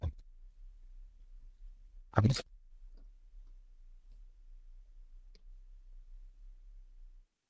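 A sharp computer keyboard clack, as someone types in a chat, stands out against a low hum, followed by a few faint, scattered key taps in an otherwise quiet stretch with no talking.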